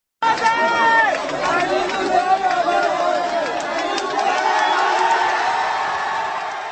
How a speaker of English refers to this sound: Aung San Suu Kyi emerged from her home on Saturday looking pleased and somewhat humbled as thousands of Burmese supporters gathered to cheer her release.